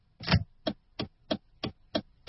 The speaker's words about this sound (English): The old alarm clock that Kyle bought in Soria last century is still working.